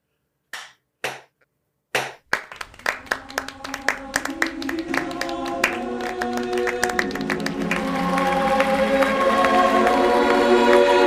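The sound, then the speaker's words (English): A slow clap: a few isolated, widely spaced hand claps that gradually speed up as more join, swelling into loud, continuous applause with cheering voices by the end. “It would have been like, I would have done the slow clap.”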